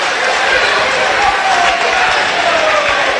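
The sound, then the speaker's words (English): A large crowd at a basketball game, Galesburg's home opener against United Township, murmurs steadily as it starts to file out in the final seconds. It is a dense wash of overlapping voices and movement with no single speaker standing out, and a faint high squeak drifts through partway. “Yeah, the crowd starting to file out now.”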